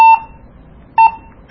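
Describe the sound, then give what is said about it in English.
Short electronic radio beeps as channels are stepped through: two brief mid-pitched tones about a second apart, then a higher-pitched beep at the end marking the loop from channel 22 back to channel one, crisp and loud against a quiet background with no talking. “And then you hear that high-pitched tone, so it loops back around to channel one, which is really good for us”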